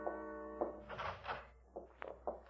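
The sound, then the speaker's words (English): Slow, uneven footsteps land as a handful of muffled thuds and scuffs, following a brief sustained hum at the start; the steps are fairly faint, with no voices. “And then I heard the steps.”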